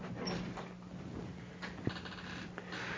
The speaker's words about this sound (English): close the door, please.